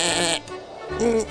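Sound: sheep bleating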